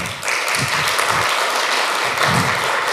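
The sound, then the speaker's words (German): An audience claps steadily, a dense wash of many hands making a fairly loud, even applause that holds for about three seconds without pause. “Danke, das bei 6,5, fangen wir zum Klatschen an.”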